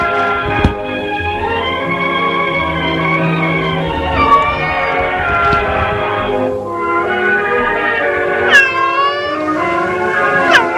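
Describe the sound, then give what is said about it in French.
A cat that Lisette plays with like a toy or doll meows a couple of times near the end, its rising and falling cries standing out over a dense, sustained ringing tonal background that fills the whole stretch. “Lisette a un chat et joue avec lui comme avec un jouet, une poupée.”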